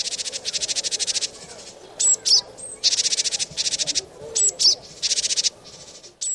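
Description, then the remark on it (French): Birds chirp outside a studio window in rapid, buzzy trilled bursts, with a few thin, sharp whistled notes between them. The calls repeat steadily and sound clear, with no talking. “D'ailleurs, pendant que nous sommes dans le studio, j'entends les oiseaux gazouiller à la fenêtre.”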